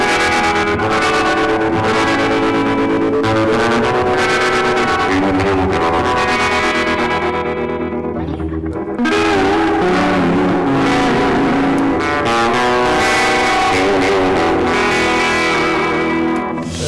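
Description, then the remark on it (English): An electric guitar plays loud, sustained chords with a throbbing tremolo pulse and washy reverb, briefly thinning out midway before swelling back. No one speaks. “So I use the tremolo for something like this, I'll use both and go.”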